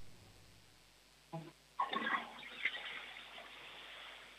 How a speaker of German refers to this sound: Das war eine tolle Klospülung.